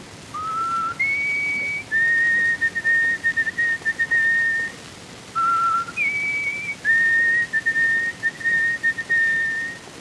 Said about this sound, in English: The peabody bird, or white-throated sparrow, calls from out the deep woods in a clear whistle.